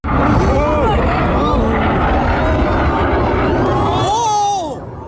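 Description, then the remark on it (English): A loud, steady jet roar from an Indian Tejas fighter jet on the last day of an air show in Dubai, while crowd voices rise and shout over it, the noise dropping off abruptly near the end as the plane plummets to the ground and bursts into a fireball. “Spectators captured the moment the plane plummeted to the ground and burst into a giant fireball.”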